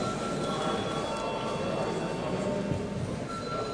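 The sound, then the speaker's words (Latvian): A parliament bell rings continuously before deputies vote on a bill in its second reading, a steady, harsh electric clatter that holds at an even loudness for several seconds without a break. “Lūdzu zvanu.”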